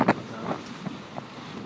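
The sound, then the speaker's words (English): Steady wind rushes over a sailing boat under a jib, running with a following sea across the channel toward Weymouth, with brief splashes and knocks breaking through the broad, even noise. No one speaks. “We've got a following sea, and we are under a jib.”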